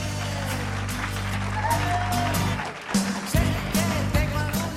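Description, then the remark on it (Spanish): A crowd applauds loudly and steadily for several seconds, a dense wash of clapping with scattered voices and cheers mixed in and a low hum running underneath; the audience is at a morning radio broadcast held at the Instituto Ribera de los Molinos secondary school in Mula. “Que se escuche fuerte esos aplausos.”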